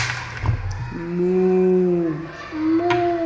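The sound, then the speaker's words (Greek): A voice imitates a cow, giving a long, steady moo followed by a second, shorter one, fairly loud, with no talking over it. “Πώς κάνει η αγελάδα.”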